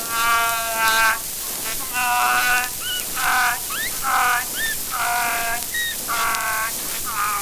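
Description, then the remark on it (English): A trick donkey in a menagerie brays repeatedly in harsh, nasal, wheezing bursts, with squeaky rising notes between them. The pulsing rhythm continues steadily throughout, fairly loud, with no talking. “And here we have the trick donkey.”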